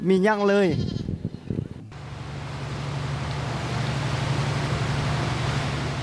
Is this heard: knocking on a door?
no